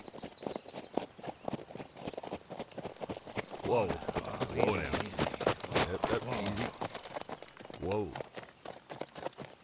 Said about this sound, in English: More than half a day's journey ahead of the Lone Ranger and Tonto, Bogus and Elk slow their horses to a walk to rest the animals.